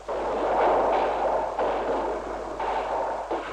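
Several gunshots crack out at irregular intervals, each followed by a long, noisy echo, fired by snipers from apartment buildings in Paris. A constant hiss sits underneath, with no one speaking.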